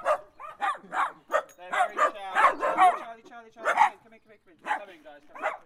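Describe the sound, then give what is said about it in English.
A family's three dogs, smooth-haired Dachshund Connie, long-haired Dachshund Charlie and Clyde, bark and yip in quick, overlapping bursts at Florence Park in Oxford, a steady excited chorus of high-pitched barks running for several seconds with brief gaps. “travelled to Florence Park in Oxford to meet a family and their three dogs”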